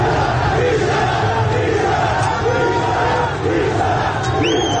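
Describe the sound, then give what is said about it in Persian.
A large crowd of protesters chants "bisharaf, bisharaf" and shouts during clashes with security forces and police around Bagh-e Sepahsalar, in a steady, rhythmic cadence, many voices roaring together at a loud, constant level, with a few higher yells rising briefly above the mass near the end. “تصاویری هم از درگیری نیروهای امنیتی و پلیس با معترضان در اطراف باغ سپهسالار منتشر شده که فریاد بیشرف بیشرف از سوی معترضان شنیده می شود.”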